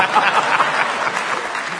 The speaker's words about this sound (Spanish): ¿Qué aplauden ustedes?